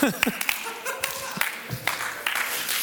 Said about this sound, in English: So yes. Okay. So we're going to awkwardly clap because we're excited.